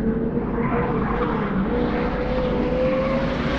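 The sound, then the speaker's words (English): A car engine, just started, revs hard and climbs in pitch as the driver guns it and accelerates, a loud, steady roar with rising harmonic tones, with no voices. “Jamming the key into the ignition, the car started just as one of the frogmen leapt on the top of the hood. I gunned it.”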